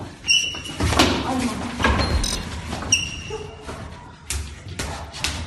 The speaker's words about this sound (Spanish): ¡Qué horror! Eso que se escucha son los golpes, que además se dan con una fuerza terrible.